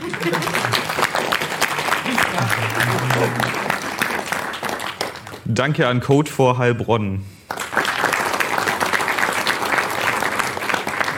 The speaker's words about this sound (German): Währenddessen danke ans Hackwerk Aalen. Danke an Coach. Genau, klatscht.